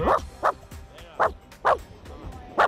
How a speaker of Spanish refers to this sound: Oye, es un perro que está bien, ¿no? Un perro, tamaño medio. Sí, sí. No muy enfadado. Así. Bien, sí. Como buscando vale. amistad.